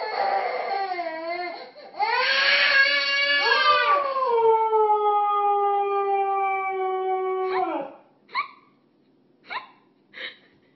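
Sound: dog howling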